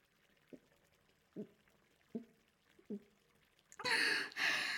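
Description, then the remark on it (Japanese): Water sloshes softly in an open-air hot spring bath, four gentle evenly spaced laps, followed by a louder, sustained rush and splash of water near the end, with no talking. “露天風呂入りながらお酒飲むの最高でしょ？”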